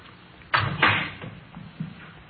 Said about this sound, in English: Here we are. I'll get the door. Go ahead, ma'am.